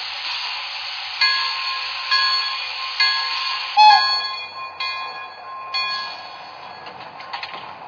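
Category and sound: vehicle, passenger train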